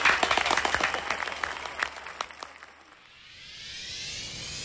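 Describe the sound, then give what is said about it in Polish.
Applause with many dense, irregular claps for about three seconds, then fading out as a smooth rising whoosh takes over to the end. “Brawa, nie, no, to się musi skończyć z brawami.”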